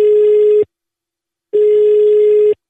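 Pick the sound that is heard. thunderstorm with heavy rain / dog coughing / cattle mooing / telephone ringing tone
telephone ringing tone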